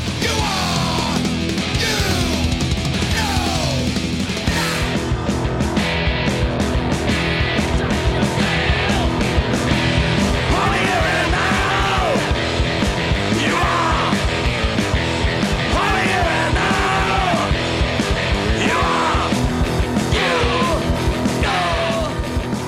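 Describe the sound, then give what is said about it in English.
A group of people screaming at the tops of their lungs in wavering, banshee-like wails, loud and continuous for the whole stretch over a dense, driving wall of noise. “that sounds like a group of people that are kind of covering their eyes and they're screaming at the top of their lungs, like a almost like a banshee kind of thing going on.”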